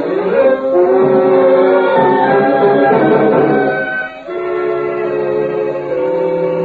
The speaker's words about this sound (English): Tonight's file opens in a Midwestern state. A freight train rambles along through the early morning mist.